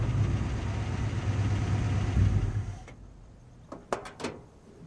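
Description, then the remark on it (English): A truck engine idles with a steady low rumble for a few seconds at night after being pulled to a stop outside a house, then shuts off, leaving quiet broken by a few short, sharp clicks and knocks. “Ed pulls the truck to a stop outside Ronnie's house.”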